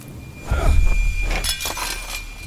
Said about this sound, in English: A loud crack of thunder startled me again, making me bump the glass of milk, knocking it to the floor.